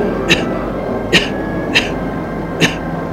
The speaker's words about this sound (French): prend une cigarette, la met à la bouche de … et l'allume. Il tousse.